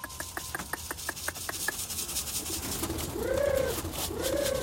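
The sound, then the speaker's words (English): Pigeons coo twice, low and rolling, at a pigeon coop in a Beijing hutong as they are called home, after a quick run of about nine evenly spaced taps, all over a steady outdoor rumble with no one speaking. “is back at the pigeon coop in his old hutong, ready for another day in the express mail van.”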